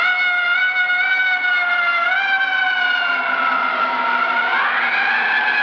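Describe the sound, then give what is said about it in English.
A fire truck siren wails continuously and loudly as the truck comes down 7th Avenue, its layered tones holding steady, then bending upward in pitch near the end as the truck passes. No one speaks. “truck approaches down 7th Avenue, it'll pass us here in a few seconds.”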